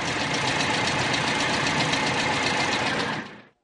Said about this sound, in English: At that moment, a motor car with servants drove up to the Emporium.